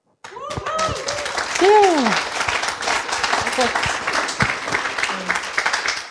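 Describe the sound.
A crowd applauds steadily for several seconds, dense clapping filling the space, with a few voices calling out and cheering near the start over the applause.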